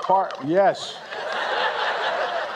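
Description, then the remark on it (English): A turkey gobbles in two quick, warbling bursts, followed by a steady wash of crowd murmur and background noise, at President Biden's Thanksgiving pardon of two turkeys, Chocolate and Chip, from North Carolina. “And this comes just hours after President Biden officially pardoned two turkeys, saving them from becoming Thanksgiving dinner.”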